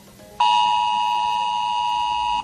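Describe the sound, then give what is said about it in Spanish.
A civil protection emergency alert tone: one loud, steady electronic note with a buzzy, harmonic edge, starting abruptly and holding unchanged for about two seconds, with no voices. “Bueno, cualquier cosa puede significar el recibir un sonido como este.”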